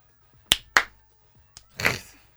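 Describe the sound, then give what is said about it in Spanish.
Two sharp hand claps ring out close together in near silence, followed by a lone faint clap and a brief scuffling burst; sparse, hesitant applause from a concert audience in Potsdam, East Germany, after a band finishes a song. “Dos aplausos.”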